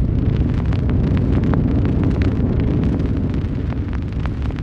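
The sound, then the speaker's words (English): A theatre organ's thunder effect, made with the heavy stops on and a hand on the bottom of the keyboard about 12 notes down: a loud, dense cluster of deep bass notes held together, making a continuous roaring rumble that stays steady throughout, with no voices. “Now, in order to produce storm effects, first of all you want thunder, which you get by putting on some of the heavy stops and putting a hand on the bottom of the keyboard at about 12 notes down.”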